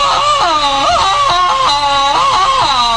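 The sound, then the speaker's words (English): A loud, sustained jungle vine-swinging yell from a man, his voice warbling rapidly up and down in a yodeling ululation for several seconds, unbroken. “I always yell like this when I get new tires from Moxie Bloom”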